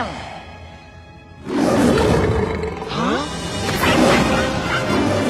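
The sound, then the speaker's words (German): A voice actor who is an expert in vocal special effects imitates a lion's roar. A loud, rough, growling roar bursts in after a brief quiet lead-in and rumbles on for several seconds with rising and falling intensity. “Als Experte für stimmliche Spezialeffekte hat er unter anderem die Löwengeräusche für Mufasa und Simba in König der Löwen erzeugt”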